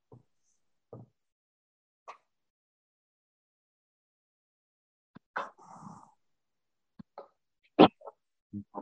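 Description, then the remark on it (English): A single sneeze during a court hearing, a sharp burst trailing into a short voiced tail, stands out amid scattered faint clicks and thumps in an otherwise quiet stretch with no talking. “Bless you.”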